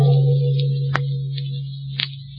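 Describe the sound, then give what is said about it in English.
A couple of sharp, evenly spaced ticks about a second apart, like a clock ticking, over a steady low hum and faint high hiss, with no voices. “Hear anything? No, just the clock.”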